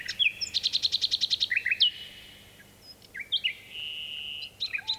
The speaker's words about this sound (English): This nightingale's song echoes across a deep valley in Dorset, England, and a tawny owl joins in. Richard Margoshis made this recording at Funtmel Magna in 1982. It's from the British Trust for Ornithology Nightingale Appeal CD.